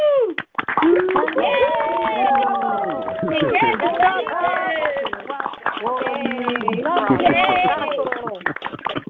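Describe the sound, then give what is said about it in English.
A group claps together over a video call to congratulate newly ordained Pathways of Light ministerial counselors, steady overlapping claps running throughout, mixed with several voices cheering and calling out at once, all sounding thin and band-limited. “Please take yourself off of mute, and all of us together, let's clap and congratulate.”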